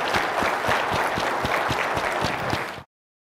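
An audience on TVO's The Agenda with Steve Paikin applauds the panelists after a panel discussion, many hands clapping in a dense, even wash of sound that stays loud for nearly three seconds before cutting off abruptly.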